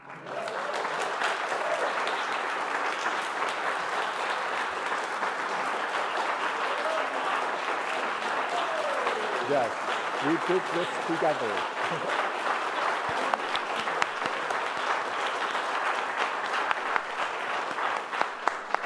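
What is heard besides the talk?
audience applause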